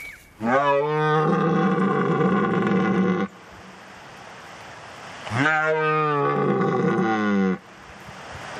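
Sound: red deer stags bellowing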